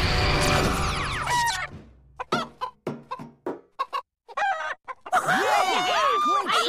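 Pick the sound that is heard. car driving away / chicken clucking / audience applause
chicken clucking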